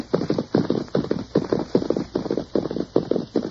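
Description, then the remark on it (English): A ridden horse trots at a steady, even clip-clop, a brisk run of loud hoofbeats filling the whole stretch with no voices over them. “Now, you ride ahead and ask if we can water our horses.”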